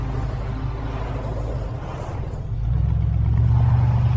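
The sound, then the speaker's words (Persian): A car engine hums steadily at low pitch, then revs up and grows louder as the car pulls away from a house and accelerates toward the highway, with no voices. “دست روی سرش میکشه و شروع به رانندگی به سمت اتوبان میکنه.”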